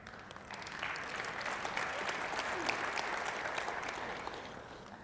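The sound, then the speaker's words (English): An audience applauds steadily during a sermon, the dense clapping swelling quickly and holding at a strong, even level for several seconds before beginning to taper off slightly at the end. “I'm glad you clapped because I was getting a little desperate for some water.”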